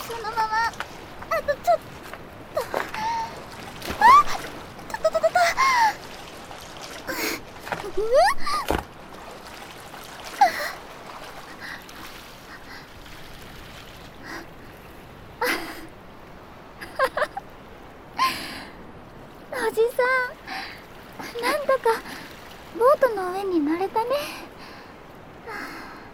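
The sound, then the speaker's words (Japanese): Sloshing and splashing water with scattered thumps and bumps as an older man hauls himself out of the water onto a boat that is hard to climb, while voices talk and call out intermittently. “このボート結構登るの大変だから。”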